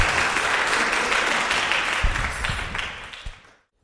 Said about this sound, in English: Thank you very much for your help. You can have a round of applause too.